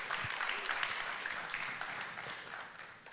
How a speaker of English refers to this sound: Can we give another round of applause for our worship team, man?